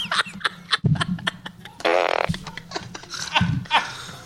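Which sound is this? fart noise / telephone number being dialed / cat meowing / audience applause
fart noise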